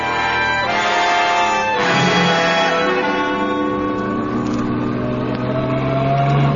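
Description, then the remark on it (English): A car engine roars loudly and continuously, its pitch rising and shifting as it revs hard and speeds along, close by with no voices. “Flying squad cars will stop all”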